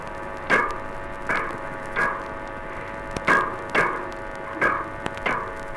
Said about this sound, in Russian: А это тоже ласкирь, но в другое время. Порывистые поступательные движения у ласкирей сопровождаются громкими звуковыми импульсами.